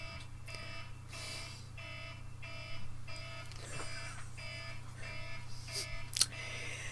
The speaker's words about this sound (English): It's my husband's alarm. He's working late, so...